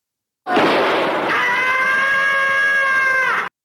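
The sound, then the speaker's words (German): The characteristic cartoon cat scream from Tom and Jerry: a loud, harsh noisy burst that turns into a long, sustained, strained high-pitched wail with rich harmonics, held steady for about three seconds before cutting off abruptly. “Ja, und da hättet ihr doch, das ist doch der charakteristische Schrei aus Tom und Jerry.”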